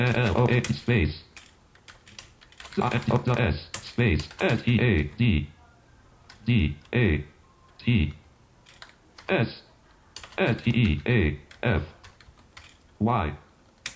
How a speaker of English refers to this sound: And I believe that I am at the field for searching. So I'm going to start typing.